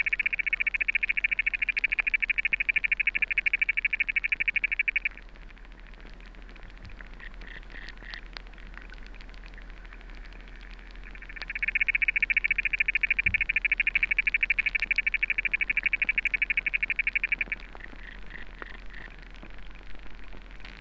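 Territorial underwater stridulation of a water boatman: loud bursts of rapid, buzzing chirps in a high band, lasting several seconds, separated by quieter stretches of faint intermittent clicking over a low hum.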